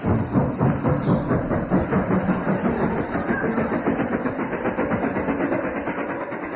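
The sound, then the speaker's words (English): A train rolls steadily along the rails, a continuous loud rumble with a fast, even clickety-clack running throughout, with no voices. “Astute listeners will no doubt be puzzled at a horse sounding like a taxi and a train.”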